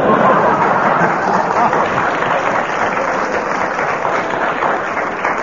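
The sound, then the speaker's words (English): A sustained burst of applause from a large studio audience, dense and steady throughout, loud with no talking over it. “You get that audience going, and no matter what you say, they applaud you.”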